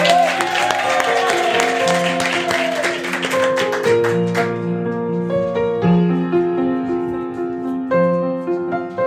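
Loud applause fills the first four seconds or so, a dense crackle of many hands clapping over music. The clapping then fades out and the tune plays on alone.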